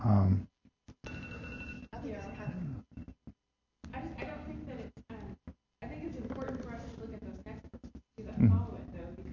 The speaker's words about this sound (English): All right, so that's the 5 minute bell going off right there.